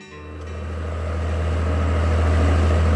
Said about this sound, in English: We got one of the louder boats. What did he just say? Were you able to catch that? We got one of the louder boats. You got one of the louder boats.